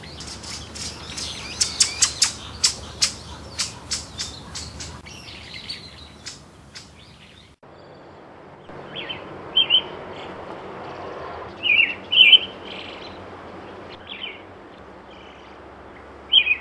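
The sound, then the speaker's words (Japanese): A pale thrush sings outdoors, starting with a quick series of sharp chirps and warbled notes, then delivering short, separated phrases over a soft ambient background. “さえずり。今のは白原でした。”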